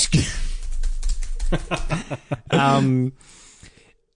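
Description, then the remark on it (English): Rapid clatter of fingers typing on a computer keyboard while researching, a quick irregular run of clicks, followed by a short voiced sound like a chuckle near the end. “That's why you definitely can't hear me typing away to research.”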